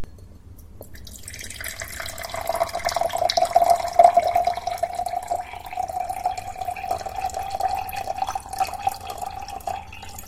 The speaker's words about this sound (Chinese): 劳烦你给我倒杯水，有问题吗？那就去倒杯水给我送来啊，我渴了，小狐狸。